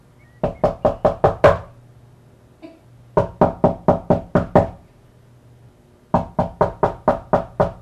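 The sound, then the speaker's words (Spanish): Loud knocking on a front door to the street comes in three quick bursts of about six or seven heavy raps each, separated by short pauses, with no voices. “pero apenas se acababa de sentar al taburete y lo estaba arrastrando para acercarse al piano, cuando oyó unos porrazos en la puerta de la calle.”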